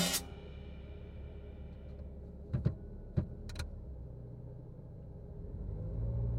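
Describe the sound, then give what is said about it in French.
A car pulls away and drives on, heading to a high school, its low engine rumble steady, with a few sharp clicks early on and the noise swelling slightly toward the end. No one speaks. “Je m'installe, on démarre, c'est parti pour le lycée.”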